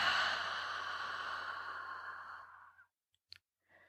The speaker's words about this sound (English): Ready? Three quick sniffs. And a long exhale.